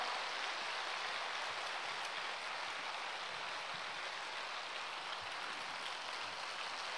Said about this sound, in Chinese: 掌声像雷鸣般的响起，谢谢大家，哎呀，谢谢你们的鼓励呀、啊！